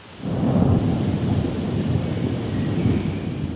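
Steady rain pours down while a low, heavy rumble of thunder rolls continuously underneath, loud, with no voices present.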